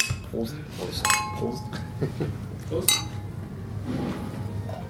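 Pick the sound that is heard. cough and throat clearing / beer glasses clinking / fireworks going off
beer glasses clinking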